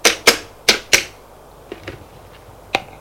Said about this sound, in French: Il prend le téléphone et fait un numéro.